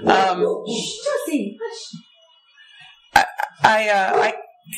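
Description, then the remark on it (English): A dog barks sharply twice, loud and close to the microphone, in a short burst between stretches of a person talking. “Sorry, folks, for my dog barking into the microphone.”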